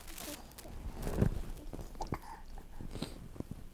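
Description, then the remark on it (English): Soft chewing and mouthing as a child chews and licks the yellow fur of a farm picture book: irregular wet bites and faint crunchy scratches repeat over a few seconds, quiet, with small breathy sounds in between. “Why are you trying to eat the fur?”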